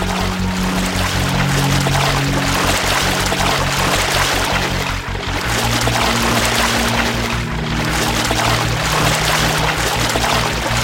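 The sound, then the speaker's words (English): Loud, steady rush of gushing, splashing water flooding a library, pouring on without a break for the whole stretch, with a low rumbling tone running underneath and no voices. “Oh dear, it looks like the library is getting flooded.”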